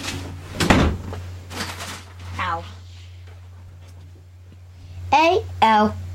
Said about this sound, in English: He's closing the door before he